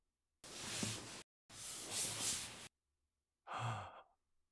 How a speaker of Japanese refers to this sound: まだ明け方だが、どうしたのだ。苦しげな息遣いが聞こえたが、よく眠れなかったか。